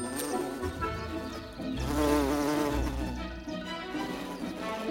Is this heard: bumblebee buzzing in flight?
yes